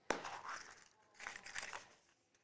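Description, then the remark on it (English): Paper being crumpled: a sharp crackling burst at the start, then a pause and a second stretch of dry, rustling crinkles, moderately loud with no voices. “Oh, yeah, you know paper. I gotta recycle.”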